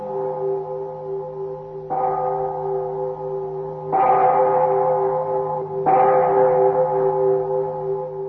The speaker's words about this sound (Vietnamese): Chợt nghe vang lên một hồi chuông.